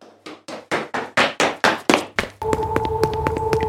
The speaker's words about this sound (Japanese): まあ一番右まで来たんで、北に北に進んでます。足音が変わりましたね。